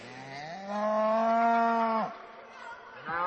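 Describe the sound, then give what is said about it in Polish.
A cow moos once, a long, loud, low bellow rising in pitch and holding steady before trailing off, with another moo starting just at the end. “Krowa? To jest krowa, tak jest.”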